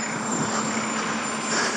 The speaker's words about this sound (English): Let's run out into the middle of the road. We're going to run down the white dotted line in the middle of the road. We've got traffic at our heels. I really can't recommend this. Just avoiding a 25 bus.